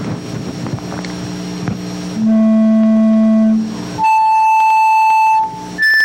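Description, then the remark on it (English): After a couple of seconds of low rumbling hum, three steady individual pure tones play one after another, each held for about a second and a half, rising from low to middle to high pitch. “The cochlea now uncoils, and we look at the basilar membrane, and now see what happens when we play individual tones.”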